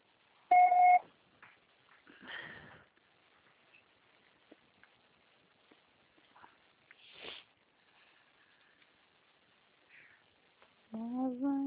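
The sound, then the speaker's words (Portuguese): A single loud, steady electronic voicemail recording beep sounds briefly at the start, following a Portuguese-language prompt to leave a message after the tone. It is followed by quiet rustling and soft clicks, then a voice begins at the end. “Grave seu recado. Se você está sendo atarifado após o sinal.”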